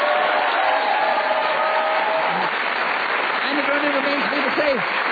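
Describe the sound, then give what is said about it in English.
Steady, dense applause from a large studio audience for game winner Paul Merton fills the whole clip, with cheers and whoops rising through the clapping toward the end. “A round of applause for Paul Merton.”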